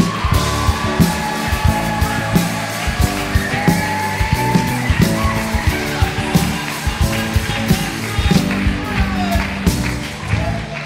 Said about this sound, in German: Und jetzt, meine Lieben, möchte ich, dass ihr noch mal ganz, ganz krass ausrastet, denn wir haben für die Predigt jemand ganz Besonderen einfliegen lassen. Einen ganz, ganz herzlichen Applaus für unseren Missionar